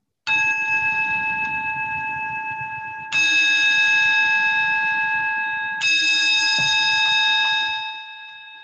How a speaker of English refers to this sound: That bell you got there, Charlie, sounds a lot of creepy to me